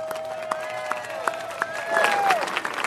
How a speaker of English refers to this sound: We are back live at Pioneer Court, just next to the legendary Tribune Tower. Thunderous applause here.